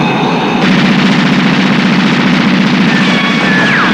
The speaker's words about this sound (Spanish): En el patio el avión avanza entre las tropas. Jack dispara la ametralladora del caza.